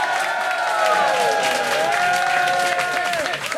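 audience cheering and applauding

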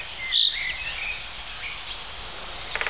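cricket-like bird song

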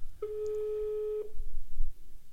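telephone ringing tone

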